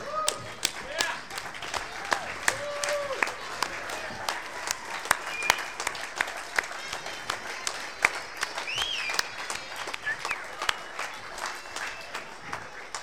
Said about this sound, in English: Let's stand up and give them a big clap.